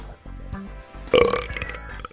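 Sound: burp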